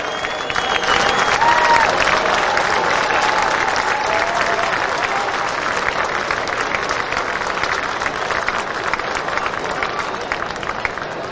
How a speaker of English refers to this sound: But man, what a performance tonight. Jake Garland again. Listen to this applause he's about to get.